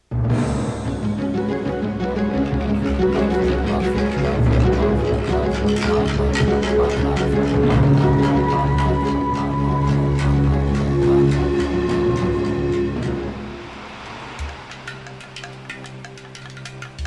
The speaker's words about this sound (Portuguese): Lá vem o ônibus que a gente está esperando.